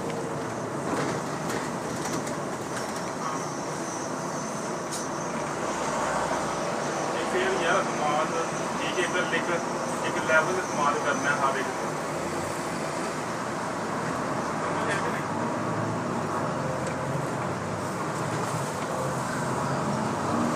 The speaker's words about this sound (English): Ah, there's the bus depot.